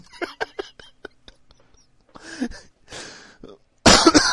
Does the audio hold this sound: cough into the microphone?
yes